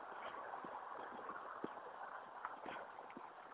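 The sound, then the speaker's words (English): Horses moving about in a neighbor's paddock early in the day, recorded on a walk, a few faint, irregular hoof thuds sounding over a steady wash of outdoor background noise. No one speaks. “Horses in the neighbor's paddock.”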